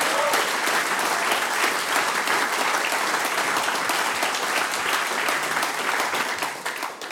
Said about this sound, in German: Großen Applaus nochmal für die Tanzmusik vom Musikverein Bad Blumau. Danke.